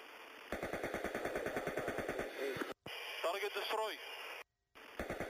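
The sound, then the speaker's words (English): An American AH-64 Apache helicopter's automatic cannon, used by the UAE against slow-moving Shahed drones, fires a long, fast, steady burst of loud, evenly spaced thuds for about two seconds, then crackly radio voices talk, with brief dropouts of silence. “They're shooting down these fairly slow-moving Shahed drones”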